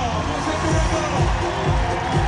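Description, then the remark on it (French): A large outdoor crowd at the Trocadéro roars and cheers steadily to celebrate Olympic champions, a dense wash of many voices filling the space without pause, loud, with no single speaker standing out. “dans une ambiance magnifique, on l'entend pour fêter nos champions au Trocadéro.”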